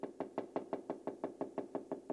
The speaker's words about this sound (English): So I'm going to close with a verse that you've heard me say recently also, Revelation chapter 3, verse 20. There's a knocking.